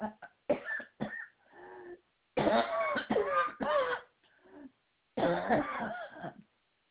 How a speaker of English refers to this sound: Excuse me, I have a whooping cough also.